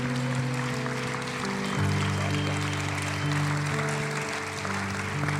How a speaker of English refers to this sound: Can we stand? I want to give a round of applause for them.